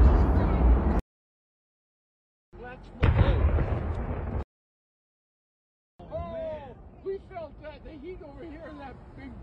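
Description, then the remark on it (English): A loud, deep explosion at a refinery booms with a sudden burst and a heavy, lingering low rumble, set among short cut segments, followed by excited voices talking afterward. “The second explosion was heard several minutes later, and flames rose high into the sky, well above the tree line, with a large plume of billowing black smoke that could be seen for miles.”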